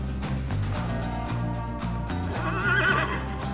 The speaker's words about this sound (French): Le vent tourna et Cheval sacré sentit à son tour Cheval vêtu. Il se mit à trembler, à hennir et à ruer.